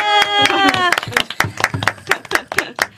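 A burst of clapping from a small group, quick sharp hand claps overlapping irregularly for a few seconds, opening with a brief held tone or cheer beneath the first claps.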